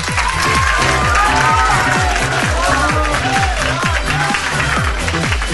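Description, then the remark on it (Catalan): Loud, sustained applause from a large audience at a spelling contest, dense clapping with some cheering mixed in, continuing steadily throughout without any speech. “Però abans de començar, ja que és el tercer nivell de lletreig, un fort aplaudiment, no?”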